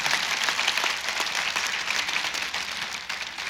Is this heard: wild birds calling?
no